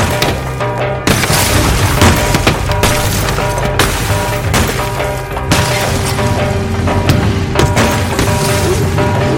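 Motorcycle riders smash a car's window glass in a series of sharp, loud crashing blows at irregular intervals, set against a dense, continuous roar of sound with a steady tonal layer underneath.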